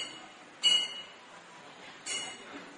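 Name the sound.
bell ringing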